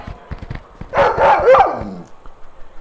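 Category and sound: animal, wolves barking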